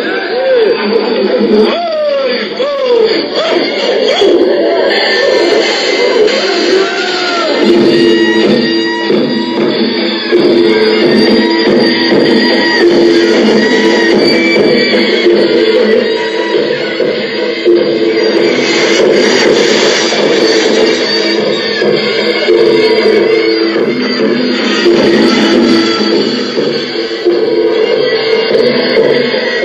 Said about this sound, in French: les acteurs se déplacent, dansent, sautent au rythme des tambours et déclenchent des applaudissements ou des rires dans le public en racontant des blagues ou des histoires qui ridiculisent les personnages.